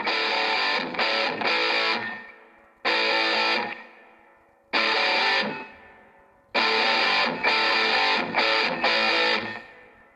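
A rock cover band's first studio recording: loud, distorted electric guitar chords crash out in a rock riff, with short choppy stabs and ringing pauses between bursts, repeating steadily with no voices.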